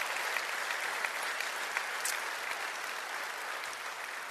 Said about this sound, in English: Y'all give him a big round of applause. You bet.